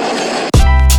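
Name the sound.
train passing by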